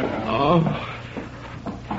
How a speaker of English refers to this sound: Open the door, quickly.